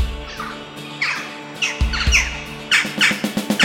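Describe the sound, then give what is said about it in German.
Sophie the crow caws repeatedly, harsh raspy calls that are fairly loud, starting spaced apart and then coming in a quicker, rougher string toward the end, with no talking. “Doch Krähe Sophie hat alles gesehen.”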